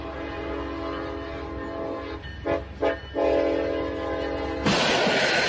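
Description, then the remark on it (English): A train's horn blares loud in long sustained blasts, broken by two short gaps, as it approaches a stationary truck at a crossing in Midland County, Texas. Near the end, a sudden harsh, roaring burst of noise takes over as the train slams into the truck. “The sound of an approaching train, but it's not enough.”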